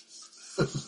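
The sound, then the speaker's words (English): A person yawns: a soft breathy rush of air gives way to two short, low voiced groans, fairly quiet and with no talking. “Yawning.”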